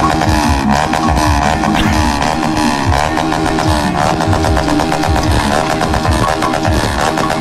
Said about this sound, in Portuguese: Olha aí. Se agora você vai escutar o barulho da sua moto.